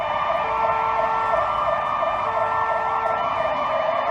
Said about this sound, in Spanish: La persiguió, contactó con sus compañeros, de la fragoneta entra en Sevilla capital, empieza a derrapar por el barrio de Los Remedios con medio cuerpo de policía y guardia civil, detrás con las sirenas a todo trapo y la gente de la calle alucinando.